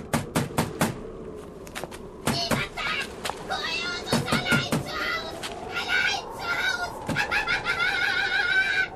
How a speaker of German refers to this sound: Wer ist das? Klingt nach einem Papagei.